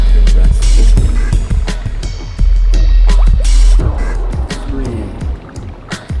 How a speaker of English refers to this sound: Listen to the musical sound of the water. Like a meadow, a stream running through it.